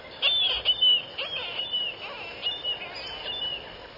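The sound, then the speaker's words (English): Marbled murrelet calls, from a small seabird related to puffins: a string of high, thin, piercing notes repeating irregularly over about four seconds, clear against a soft background hiss, with no voices. “Most seabirds meet and breed in colonies, but marbled murrelets, little relatives of puffins, breed inland in old-growth forests.”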